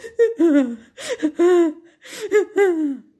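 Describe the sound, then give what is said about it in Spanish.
A small boy cries and whimpers without stopping, in three wavering, sobbing bursts, each pitched cry sliding downward, fairly loud with short breaths between them and no talking. “creció y seguía llorando y llorando sin cesar, sus padres comenzaron a preocuparse.”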